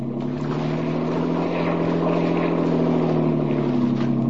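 A motorboat engine drones steadily at high revs, a loud continuous hum with a churning, buzzing texture as it races across water, unbroken for the whole stretch.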